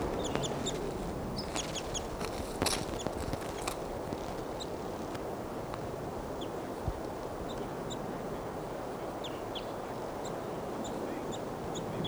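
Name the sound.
bird chittering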